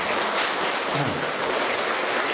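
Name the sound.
audience applause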